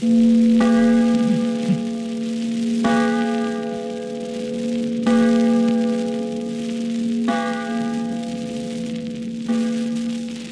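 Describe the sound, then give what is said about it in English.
Church bells in the belfry of a meeting house ring out in five steady, evenly spaced strokes as a blacksmith tries out the just-repaired bells, each loud and resonant and slightly off key, their overtones lingering over a constant low hum between strikes. No one speaks. “Now, we hear the blacksmith trying out the bells.”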